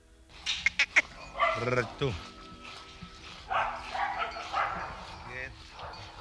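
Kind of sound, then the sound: animal, dog barking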